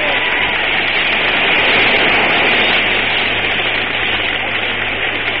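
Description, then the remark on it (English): A football stadium crowd claps steadily right round the ground, a salvo of hand claps for Coleman kicking his 100th goal: a dense, continuous wash of hand claps that stays loud and even throughout, with no distinct individual claps standing out. “Well, you can hear the crowd clapping. Right round the ground it goes. A salvo of hand claps for a magnificent footballer who in his first year of league football has broken all records by kicking 100 goals.”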